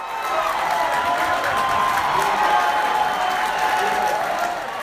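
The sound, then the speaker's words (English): A large crowd of Republicans at a GOP watch party in Dallas, Texas, cheers and claps loudly and steadily as Donald Trump wins the presidency, a dense wash of voices and applause with shouts rising out of it, sustained for several seconds without a break. “You could hear Republicans cheering across the state, including at a GOP watch party in Dallas.”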